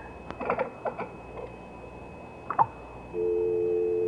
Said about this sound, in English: There's no one on the line. It's just a dial tone.